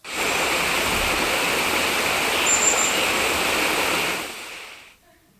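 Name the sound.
rushing water sound effect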